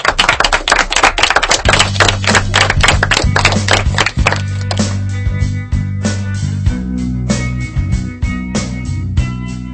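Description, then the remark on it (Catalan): Loud applause in a radio studio, given as a farewell to visitors to the studio: a dense burst of sharp, rapid claps that thins out over several seconds while a steady low musical drone rises underneath and carries on after. “Doncs, nois, fem una cosa, deixem ja aquesta visita que estem fent aquí a l'estudi, però ho farem amb un fort aplaudiment que és per vosaltres.”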